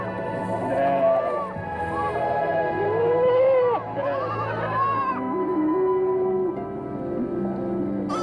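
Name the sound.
sheep bleating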